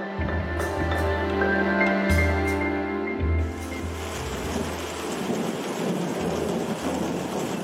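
A thunderstorm rumbles with deep, rolling thunder in the first few seconds, then steady heavy rain pours down and hisses loudly, filling the scene with dense noise.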